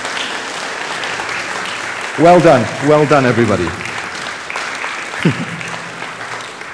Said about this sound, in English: For your ministry, I would like everyone to give each other a round of applause. So everybody, applaud everybody else for your ministry.